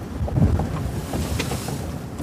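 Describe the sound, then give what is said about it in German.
A racing yacht sailing fast through strong wind, with steady low rumbling wind buffeting the microphone and water rushing along the hull, continuous throughout. “Wir sind voll im Wind.”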